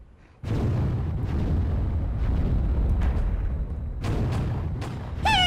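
Heavy gunshots from the direction of the farm buildings boom out in a loud, rumbling series, several sharp blasts over a continuous roar, with a brief high whine near the end. No one speaks.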